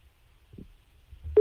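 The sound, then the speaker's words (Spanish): Telephone call beeps as the radio show Despierta San Francisco places a call: after near-silence with a few soft low thumps, a single loud, steady mid-pitched tone starts abruptly at the very end and is cut short. No one speaks. “Pon los pitidos, ¿eh? A ver, vamos a llamar.”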